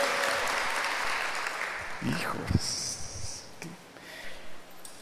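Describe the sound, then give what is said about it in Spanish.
A church audience applauds for God after finding the Gospel of John, chapter 15, with dense, steady clapping that thins out over a few seconds, while scattered voices call out over it. “Un aplauso al rey, porque encontraste su palabra.”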